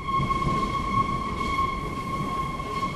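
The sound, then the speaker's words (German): A Berlin U-Bahn subway train rumbles steadily along with a low, constant roar and a faint high-pitched whine, continuous with no voices. “Die Berliner U-Bahnen sind in diesen Tagen proppenvoll.”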